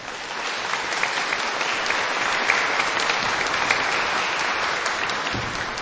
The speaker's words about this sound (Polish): Tymi słowami bardzo serdecznie i gorąco witamy i pozdrawiamy wszystkich słuchaczy Radia Maryja i widzów telewizji Trwam, a do naszych pozdrowień dołączymy oczywiście nasze gorące oklaski, które przekazujemy z tego pięknego miejsca. Brawa dla nich!